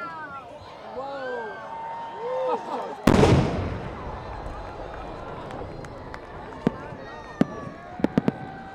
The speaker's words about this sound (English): At about the same time, these 16 four-inch shells inside will also go off all in different colors in the center of the shell. Those in attendance and the people sitting miles away saw that firework fill up the whole sky.